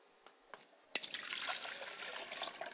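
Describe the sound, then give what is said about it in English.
Water is poured out as a libation to the west in a ritual for the ancestors, in a steady splashing stream after a few faint drips, the liquid sound continuous until the end, with no voices. “I pour libation to the west, Ashe.”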